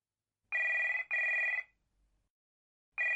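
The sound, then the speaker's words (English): A telephone rings in a classic double burst, two bright electronic trills close together, then a pause before the next ring starts, opening a telephone conversation between a daughter and her mother in an English listening exercise. Clear, with no voices. “Listen to the telephone conversation between Louise and her mother and answer the questions.”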